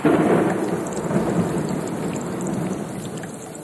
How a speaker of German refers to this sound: Nun begann es zu regnen. Die Tropfen fielen immer dichter und es gab einen richtigen Wolkenbruch.